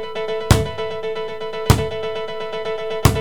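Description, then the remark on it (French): A basketball bounces three times at an unhurried, steady pace, each sharp thud followed by a hollow ringing tone that lingers between bounces. No one speaks. “C'est un ballon de basket qui rebondit.”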